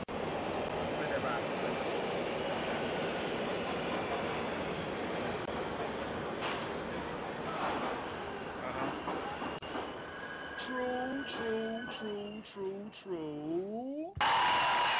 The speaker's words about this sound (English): Oh, by the way, it's the subway. Yeah.